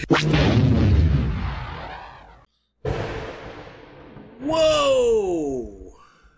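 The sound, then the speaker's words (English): A loud crash of thunder from a nearby lightning strike hitting the ground, with a deep, rolling rumble that fades, then a brief silence and a second booming burst, followed by a wavering, voice-like tone. “Did you hear the thunder in response to lightning hitting the ground?”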